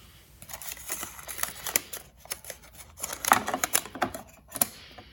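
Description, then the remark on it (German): Rapid mechanical clicking and whirring from the small ballpoint-pen plotter of a Yamaha Portasound MP1 keyboard drawing a played melody onto receipt paper, a stuttering run of taps and short buzzing strokes, steady for several seconds with no voices. “Das Gerät hat die Möglichkeit, die gespielten Melodien mittels eines kleinen Kugelschreibers auf Bongs zu plotten und somit die wunderbaren Symphonien des Yamaha Portasound MP1 auf Papier zu verewigen.”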